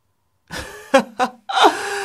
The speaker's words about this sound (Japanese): そんなに息切れしちゃって大丈夫？